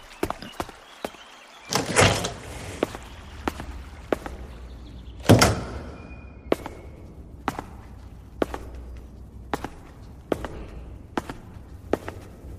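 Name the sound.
door opening and closing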